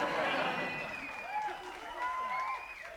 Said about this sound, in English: Y'all don't stop cheering, and I'll have to sew your mouth shut like I do to my interns.